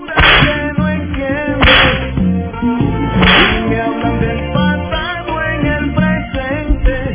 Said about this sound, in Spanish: Tengo dos mentiritas que quiero aquí que las descubramos, pero démosle los latigazos aquí al usurpador Jerez.